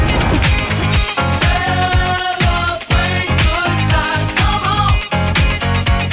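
An upbeat disco-funk song intro plays loud, with a punchy, steady bass-and-drum groove under bright melodic lines and no singing or talking.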